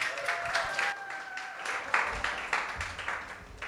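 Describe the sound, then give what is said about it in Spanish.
An audience applauds steadily to welcome a writer to a literary reading: dense overlapping claps form a continuous rushing wash, with a few brief whistle-like tones early on and no talking over it. “Luna Victoria, fuerte el aplauso.”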